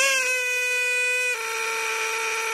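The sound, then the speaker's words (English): A squeezed rubber toy duck in Kansas City lets out a long, reedy squeal that holds steady, then drops to a slightly lower, hoarser pitch and keeps squeaking loudly without any talking. “The first one sounded like you were strangling a duck.”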